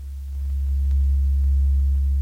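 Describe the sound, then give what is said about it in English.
A steady, very low 70 hertz rumbling tone from a tone generator in a studio hums continuously, fading in over the first half second and then holding constant and loud with no voices, deep enough to feel more than hear. “Now, to give you an idea of 70 hertz, we asked our engineers to reproduce this for us here in the studio using a tone generator similar to the one scheduled for use by Dr.”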